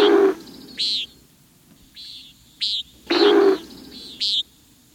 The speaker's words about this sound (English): With luck, you may witness the male's territorial display as it dives sharply toward the earth, only to pull up at the last second, while the air rushes through its wing feathers, creating a startling wallop of sound.